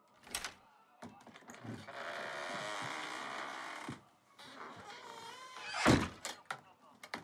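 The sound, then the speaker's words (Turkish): A sharp latch click as a string is pulled to lift the latch, then a long, rough creak as a door swings open, ending in a loud thunk followed by a few small knocks. “İpi çekti, çatal kalktı, kapı açıldı.”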